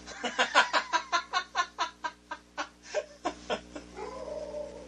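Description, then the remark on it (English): A dog barks in a rapid, steady string of short, high-pitched yaps, roughly a dozen or more in a row, before trailing off into a softer, drawn-out whine. “Oh, your dog is barking.”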